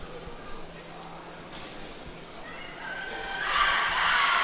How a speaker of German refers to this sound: Jetzt nochmal Teambuilding, beide Mannschaften im Kreis versammelt. Heizen sich da nochmal auf, motivieren sich da nochmal gegenseitig. Wird gleich wahrscheinlich mit einem lauten Schrei beendet werden.